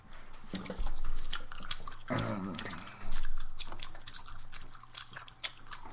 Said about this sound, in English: Oh, powerful gum. Now we're going to make chewing noises. This is the chewing noises portion of the program.